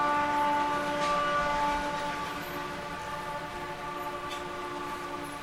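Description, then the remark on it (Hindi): A train rolls past, a steady mechanical rumble with a sustained droning tone layered on top, holding fairly loud and even for several seconds and easing slightly toward the end. “Is this the back to Godhead express?”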